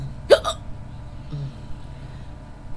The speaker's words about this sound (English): But I can't due to these hiccups. Excuse me.